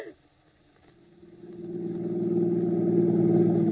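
A car engine turns over after a brief quiet moment, then revs up steadily, its droning growl building to a loud, sustained roar, with no voices.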